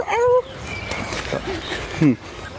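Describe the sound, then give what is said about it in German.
A person imitates a dog with a short, yappy vocal burst, then chatter follows and a second brief yelp-like imitation cuts in near the end, fairly loud. “Ja, okay, so macht kein V, so macht ein Hund.”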